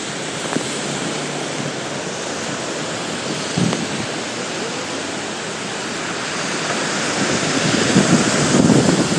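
Cars and trucks splash at speed through deep standing water on a flooded road, a steady roaring hiss of spray that swells louder toward the end as traffic passes, with a faint rushing wind in the background.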